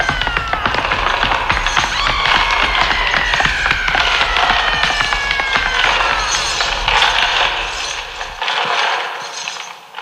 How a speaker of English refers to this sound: Footsteps, screams, and the sound of rattling chains chased the figure down the hallway and faded into the darkness.